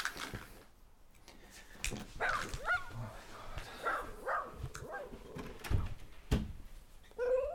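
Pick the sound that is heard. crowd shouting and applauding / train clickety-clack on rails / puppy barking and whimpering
puppy barking and whimpering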